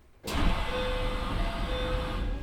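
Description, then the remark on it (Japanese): Doors of a Sanyo Electric Railway train opening at a station in Japan: a sudden pneumatic whoosh breaks in after a brief quiet, then a steady rushing hiss continues over a low mechanical hum and a faint tone. “扉を開きます。”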